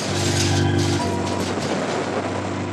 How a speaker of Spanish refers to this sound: Un segundo después de ser arrojada por la ventana, la hermosa Geisa estalla en el aire. La formidable explosión sacude los cimientos del hotel.